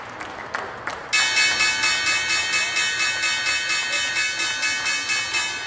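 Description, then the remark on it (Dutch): A loud, bright stock exchange opening bell rings continuously in rapid, steady strikes after a few brief claps, with a faint crowd murmur underneath, marking Xpeng's IPO in 2020. “Nou, de bel die klonk al enthousiast.”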